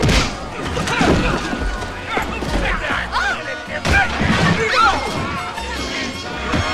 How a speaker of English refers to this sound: Pecos saunters across, then socks Zeke through the plate glass window. Old Indian is sitting on the pavement outside, calmly smoking. He doesn't even bat an eyelid as glass and bodies fly past him.